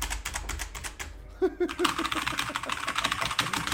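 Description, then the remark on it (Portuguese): Rapid clacking of a mechanical keyboard, a dense run of sharp, crisp keystrokes that briefly slows around the middle before resuming at a steady, busy pace, with no talking. “Mecânico bom só o teclado, né, cara? Só, ó.”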